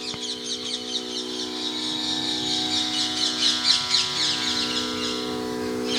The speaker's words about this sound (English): The beautiful Vrindavan birds.